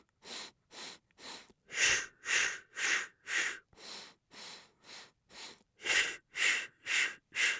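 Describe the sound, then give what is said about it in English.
Rhythmic breathing in short segmented bursts: four quick nasal inhales in a row followed by four steady exhales through the mouth, repeating in a regular pattern with no talking. “Now, you're going to inhale through your nose, as you probably heard, and exhale out your mouth.”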